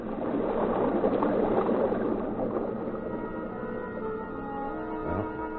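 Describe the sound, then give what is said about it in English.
Steady rushing sea water surges and gurgles against a submarine's hull, a dense roaring wash that eases slightly after a few seconds, with a low tonal hum and a brief rumbling knock near the end. “The sea outside sounds as if your ear is in a pounding surf.”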